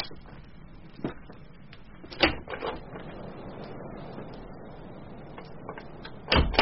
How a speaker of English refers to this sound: I could have sworn the latch fell.